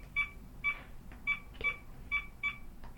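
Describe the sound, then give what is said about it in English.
Seven short electronic keypad tones from a landline phone being dialed to call another phone, beeping one after another in a quick, slightly uneven rhythm, clear against a quiet low hum. “So I'm dialing now.”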